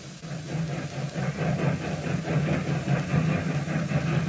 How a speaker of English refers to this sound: As the train pulled out, Villard, who was traveling on it, approached the sad-faced man in his private coach.